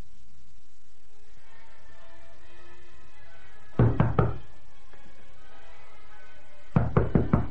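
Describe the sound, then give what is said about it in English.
Two bursts of firm knocking on a door by an inspector, each a quick set of three or four sharp raps, separated by a few seconds of quiet. “You're wasting your time knocking, you know, Inspector.”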